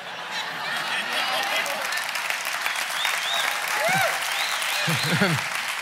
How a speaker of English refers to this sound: I am glad you're clapping for my ungodliness.